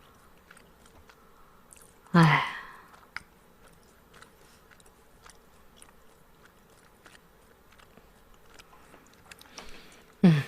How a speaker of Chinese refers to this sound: 这就是视听盛宴啊！我看你嚼口香糖就是视听盛宴啊！